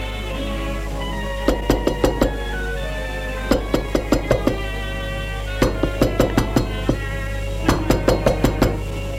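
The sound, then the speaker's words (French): Knocking on a door comes in four quick bursts of four or five sharp raps each, separated by short pauses, over a steady low hum and soft sustained tones. “Frappé à la porte, ça les a fait sursauter.”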